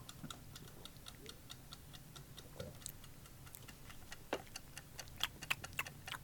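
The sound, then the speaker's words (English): A mechanical timer ticks steadily on its own, a quiet, even run of sharp clicks a few times per second, with a few slightly louder ticks toward the end and no talking. “The timer hasn't started though. No. I'm starting it up now.”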